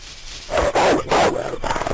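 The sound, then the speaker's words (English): A video game sound effect of a pet wolf returning to the player after retrieving an arrow: a quick series of three or four growly, bark-like canine bursts, fairly loud, following a brief quiet start. “A wolf returns to you.”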